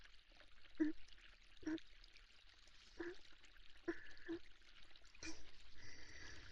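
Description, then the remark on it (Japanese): Water runs steadily over hair with a soft, continuous hiss, broken by a few separate drips and splashes, then a fuller pour near the end. No one speaks. “では、準備ができましたので早速洗っていきますね。”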